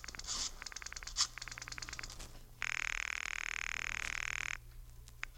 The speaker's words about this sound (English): Well, right now, George has shut himself in the den to use the phone.